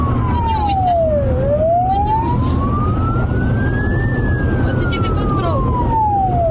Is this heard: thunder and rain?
no